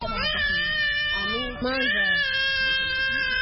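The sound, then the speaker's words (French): A hungry Congolese refugee baby, held in its mother's arms, wails loudly on the beach at Rumonge, Burundi, about 100 km south of Bujumbura, just off a pirogue from the DR Congo. A strained, continuous cry broken by one quick breath before it resumes just as intensely. “Ce bébé a faim car depuis sa venue mercredi, aucune aide en nourriture n'a été donnée à ces réfugiés congolais”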